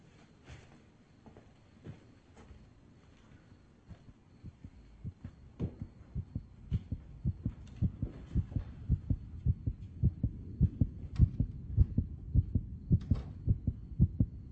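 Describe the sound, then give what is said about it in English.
Ultrasound heartbeats of a pregnant mother and her baby: muffled, whooshing thumps in a steady rhythm, sparse and faint at first, then growing louder and quicker as the mother's slower beat and the baby's rapid beat overlap. No talking. “We're gonna hear two heartbeats now.”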